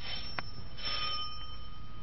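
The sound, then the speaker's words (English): A house's front-door doorbell rings at about eight o'clock at night with steady, bright tones that hold and slowly fade across about two seconds, over a faint background hiss, with no voices. “Front door. Want me to answer, Ma?”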